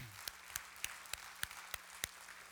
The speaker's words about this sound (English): Let's give the Lord a hand clap. I heard one.